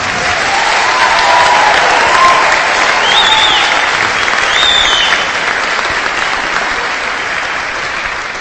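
An audience claps steadily in a dense, sustained wash of applause lasting several seconds, fairly loud and even throughout, with a few faint voices and whoops rising above the clapping.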